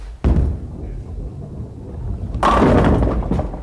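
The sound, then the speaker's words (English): At a bowling alley next to a recording studio, a bowling ball lands with a heavy thud and rolls with a low rumble, then smashes into the pins for a strike with a loud, clattering crash that rings on for a second. “One studio was next to a bowling alley.”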